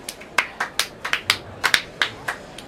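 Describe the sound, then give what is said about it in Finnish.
Sparse, uneven hand claps for a trio of speakers after their talk, about a dozen sharp bright smacks over a few seconds, with no talking. It sounds more like a few people than a full crowd applauding. “Heidän esitelmänsä aihehan oli kuivakkuus elämän asenteena, joten paikallaan on isokätiset aplodit hyväryhtiselle troikalle.”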